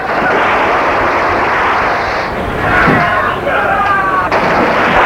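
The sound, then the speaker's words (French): Loud machine-gun bursts crackle through a dense, chaotic roar of noise, relentless, with indistinct voices mixed into the din. “Du coup de mitraillette.”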